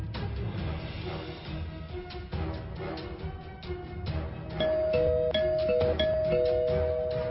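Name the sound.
doorbell ringing repeatedly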